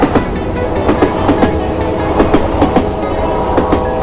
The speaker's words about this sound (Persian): سوت قطار مشهد به صدا در اومد، باز من و امام رضا صدا زد